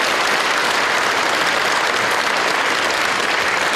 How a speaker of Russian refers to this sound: Публика с удовольствием подпевала знакомые тексты и провожала певицу бурными аплодисментами.